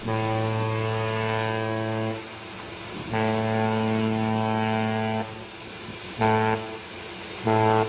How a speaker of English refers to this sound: Can you describe what a ship's horn sounds like in port or up close? It must be deafening. It's really loud. It's strident, and it can be very deep throated. And it can blot everything else out.